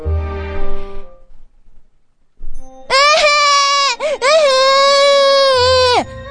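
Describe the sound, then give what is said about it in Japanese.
A voice acts out a child's crying in a short comedy skit: a brief murmur, a pause, then a loud, drawn-out wailing sob with wavering pitch and a short catch midway, lasting about three seconds. “その子泣いてるだろ。”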